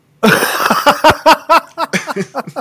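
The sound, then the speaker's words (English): A loud coughing fit: a rapid series of harsh, raspy bursts, about a dozen in quick succession, tapering slightly toward the end with no talking. “It's like, you know, off the middle of my coughing fit just to say that it's fucking awful.”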